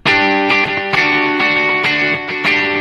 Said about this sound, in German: Ja, oder wir gehen mal auf ein Echoplex, das hat noch mehr Höhen.